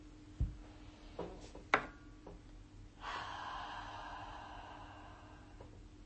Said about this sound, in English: So breathing in fully and exhaling. Breathing in and exhaling.